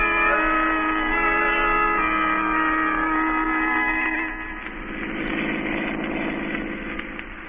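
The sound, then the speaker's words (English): A car engine hums steadily while driving, a droning, harmonic motor tone that drops slightly in level partway through and turns rougher and more rumbling. No one speaks. “That's why we're driving down here.”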